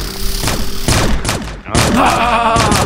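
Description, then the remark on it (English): Loud bursts of AK-47 automatic gunfire, rapid sharp cracks fired in dense volleys with a brief pause midway, over a steady low rumble. “He's got a AK-47.”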